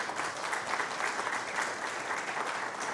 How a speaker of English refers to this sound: Well, today's Father's Day. Let's give our dads here a round of applause this morning.